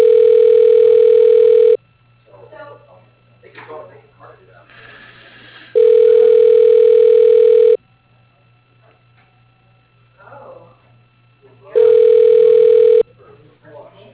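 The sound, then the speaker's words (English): A phone rings on an outgoing call to Mid-State Tree Service: three loud, steady ringback tones about two seconds each, spaced roughly four seconds apart, with people talking quietly in the gaps. “I'm on the phone.”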